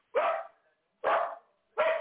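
A dog barks three times in a steady rhythm, each bark loud and sharp with a short gap of silence between them. No voices are present.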